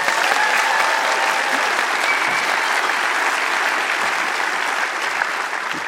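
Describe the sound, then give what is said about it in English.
Sustained applause from a large forum audience for the event's coordinator, a dense, steady wash of clapping that fills the whole clip at fairly high volume, tapering only slightly near the end. “I'd like her to receive a round of applause.”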